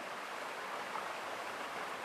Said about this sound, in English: Hear the water tumbling over the smooth rocks. Feel the mist lightly on your skin.